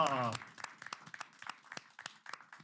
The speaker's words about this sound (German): Dann endlich mal Applaus live.